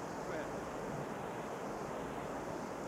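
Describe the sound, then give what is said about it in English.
Heavy rain pours down during a convention meeting vote, a steady, dense roar of hiss and patter, unbroken and fairly loud throughout, with no voices or other distinct sounds standing out. “If you can hear it over the rain, those in favor, please say aye.”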